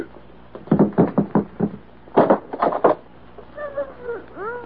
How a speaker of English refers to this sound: Open that door there.